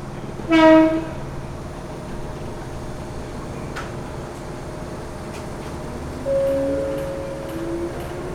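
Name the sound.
local train running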